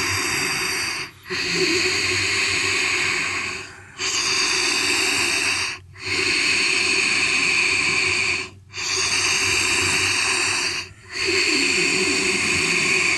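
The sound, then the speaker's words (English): Loud, steady Ujjayi yoga breaths hiss through a constricted throat, each long inhale and exhale flowing almost continuously, broken only by five brief pauses. No one speaks. “So called Ujjayi breathing, where we make a sound like an ocean or hissing snake through our throat.”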